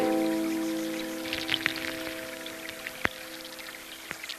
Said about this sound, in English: Just think about it. If you have a flowing river, it's the little stones and the little sand in the creek bed that just go flowing with the water, and that actually makes a nice sound.